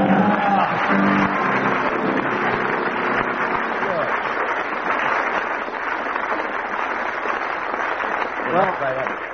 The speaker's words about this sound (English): And the consequence was... the audience broke into spontaneous laughter and prolonged applause.